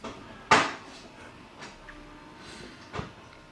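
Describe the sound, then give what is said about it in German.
A coffee machine finishes cleaning itself and switches off: one sharp clunk, followed by two softer knocks spaced over the next few seconds, with a quiet hum in between. “Meine Kaffeemaschine hat sich gerade gereinigt und schlafen gelegt, ausgeschaltet.”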